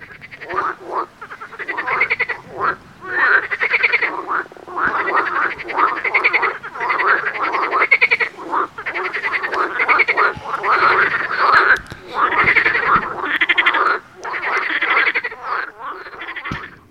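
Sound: many frogs croaking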